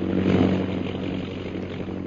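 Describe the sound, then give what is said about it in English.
A small propeller plane's engine drones steadily as the plane is brought down to fly low, a continuous low buzzing hum with strong harmonic bands, slightly louder at first then holding level, no voices. “Quickly, turn back. At once, Mem Saab. Bring the plane down as low as you can.”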